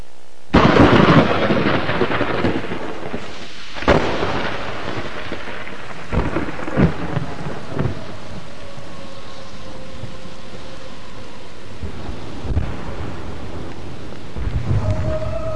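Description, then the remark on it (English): Heavy rain pours steadily while loud claps of thunder crack, with a big boom at the start and several more rumbles rolling in over the downpour. “And then, ladies and gentlemen, it rains for 3 days.”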